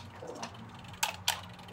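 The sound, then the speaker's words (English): A mechanical kitchen timer is wound and set for about 10 minutes while a pie bakes in a 425-degree oven, giving a few soft ratcheting ticks followed by two sharp, bright clicks about a quarter second apart over a low steady hum. “Timer on.”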